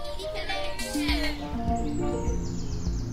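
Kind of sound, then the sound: bird, willow warbler song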